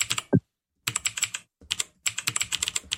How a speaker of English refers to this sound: what listeners can't tell is when you make a mistake, it doesn't let you pass by it. It stops you on that letter until you get that letter. So you can't just own the mistake and keep going, which is not cool. You have 26 seconds left in your typing.